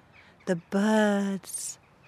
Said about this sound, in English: The birds are so much noisier this time of year. They're nesting, they're getting busy.